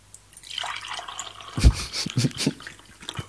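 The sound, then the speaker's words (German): Water being poured onto plants, a splashing, trickling stream with irregular drips and gurgles, moderately loud, with a stronger burst partway through and no talking. “Achtung, jetzt kommt das obligatorische Gießen.”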